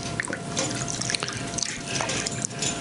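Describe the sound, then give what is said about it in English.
Water splashes and drips steadily in a basin as hands are rinsed, with small plinks and trickles and no voices. “Allow yourself to wash your hands in the living water.”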